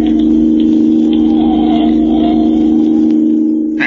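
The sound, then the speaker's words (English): A car engine drones loudly and steadily with a strong low hum as the car speeds along a highway, leaving a following car behind, with light road whir on top and no voices. “Leaving it behind like it was standing still. This car's got an engine in it, all right.”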